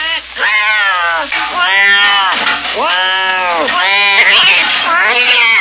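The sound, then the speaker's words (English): A cat meows loudly and repeatedly in long, drawn-out, wailing calls that rise and fall, one after another with barely a pause. “She's frying the cat in pure Nesson oil.”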